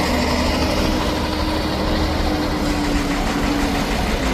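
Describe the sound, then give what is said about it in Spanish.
A steady, continuous rumble of idling truck engines at the Rafah border crossing between Gaza and Egypt, with a low droning hum and a broad wash of mechanical noise that holds an even, fairly loud level throughout, with no voices. “Este es el sonido que nos llega desde ese paso que conecta Gaza con Egipto y que Israel mantiene controlado”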